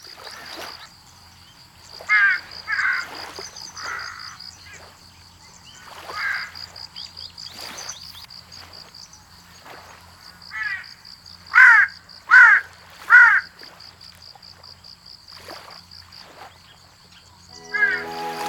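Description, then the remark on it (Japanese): An Osa large-billed crow gives repeated harsh caws in short bursts, some in quick runs of two or three, clear, over a steady high insect drone in a quiet forest on Iriomote Island, Japan. “朝の小鳥、今朝は西表島のオサハシブトガラスをお送りしました。”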